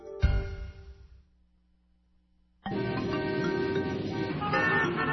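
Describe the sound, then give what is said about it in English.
A loud car horn blares briefly, fades to near silence, then a dense wall of road traffic noise rushes in with overlapping car horns honking continuously and steadily. “Traffic. All this traffic.”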